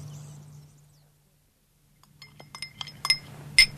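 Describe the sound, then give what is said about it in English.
A low steady hum fades to near silence, then light glassware chinks and clinks several times in quick, irregular succession, fairly crisp, the last few taps bright and ringing, as a glass with a drink is handed to an older man. “I can still hold a glass.”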